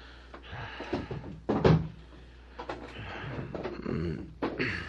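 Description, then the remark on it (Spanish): A door is pushed shut with a single solid thud, among softer creaks and shuffling handling noises, otherwise quiet. “Voy a cerrar la puerta de Gregorio.”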